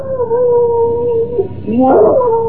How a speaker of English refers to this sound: I'd have sworn I heard something out here. Oh, what's that? Just a shadow, I guess. But just the same, a dog. That's what I heard.